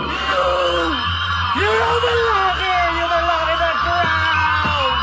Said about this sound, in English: In a fit of enraged horror, he screams.